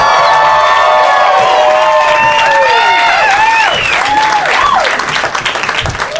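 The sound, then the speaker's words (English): A large audience at a Doug Loves Movies show at the Upright Citizens Brigade Theatre claps along to a song steadily and loudly throughout, off the beat by the end, with rising and falling cheers, whoops and whistles layered over the dense applause from start to finish. “The clapping is so it's so off by the end of the song every time.”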